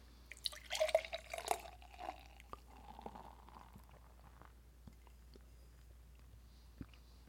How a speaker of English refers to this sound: I just have to look at the beer as it pours out, so I don't make a big fat mess